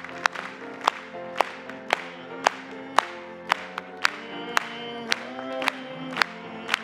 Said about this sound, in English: Let's just clap to him, amen.